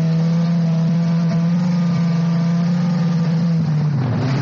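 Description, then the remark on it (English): A race car engine roars loudly during ice car racing across a frozen lake in Homer, Alaska, organized by the Homer Ice Racing Association, holding a steady droning pitch before easing down near the end as it shifts or slows, with no voices. “spoke to VOA about her beginnings in ice car racing”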